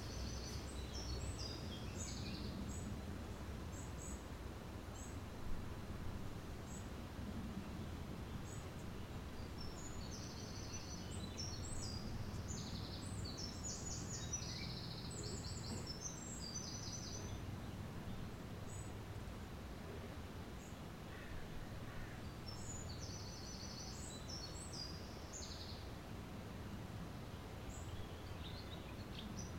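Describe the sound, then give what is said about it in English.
Faint birds chirp in scattered bursts, short high calls coming and going over a steady low outdoor rumble, with no one speaking. “Insects, birds, wind, people.”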